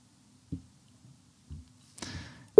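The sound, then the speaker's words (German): A few soft clicks and a brief rustling burst, then a loud, steady telephone ringing tone of a call being placed starts abruptly at the very end, clear, with no talking. “Das Niveau steigt mit dem ersten Telefontuten.”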